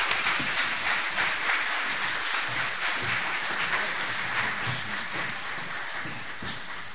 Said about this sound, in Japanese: 拍手を持って先生をお迎えしていきましょう。期待していきましょう。